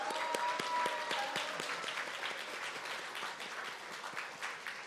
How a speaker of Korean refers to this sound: 오늘 옆에 네, 왼편에 보이는 분들이 수료생들입니다. 저 늠름한 자태. 네, 우리 너무나도 훈련 잘 받으셨습니다. 우리 격려와 또 환호의 박수 하겠습니다.